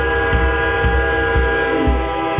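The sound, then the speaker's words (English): A loud train rumbles past, its horn blaring in a long steady tone over rhythmic wheel clacks that thump roughly twice a second. “Getting louder, and louder. Here comes the loud train.”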